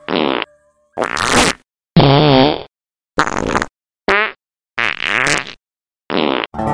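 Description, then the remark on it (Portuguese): A rapid series of about eight loud farts, each a separate burst of varying length, some buzzy and drawn out, others short and sputtering, with brief silences between them. “Ouça agora uma sessão de peidos e tente imaginar o cheiro.”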